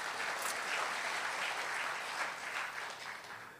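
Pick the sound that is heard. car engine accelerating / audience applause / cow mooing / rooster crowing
audience applause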